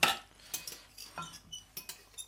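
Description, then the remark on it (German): Metallic scrapes and light clinks of a knife and fork cutting a homemade dish on a plate to taste it, a quick irregular series of short, bright strokes with no talking. “Schneiden. Ein bisschen schneiden.”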